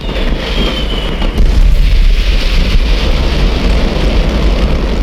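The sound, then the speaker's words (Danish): A massive explosion of several hundred tons of fireworks at a fireworks factory in Seest, Denmark, roars loud, surging sharply after a moment into a sustained, heavy rumble with dense low booming and a hissing, crackling wash over it. “Flere hundrede tons fyrværkeri detonerer, og en paddehattesky rejser sig over Seest.”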